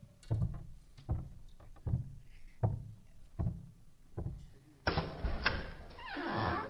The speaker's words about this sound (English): Oh, our apologies for all the knocking. We thought maybe no one was here.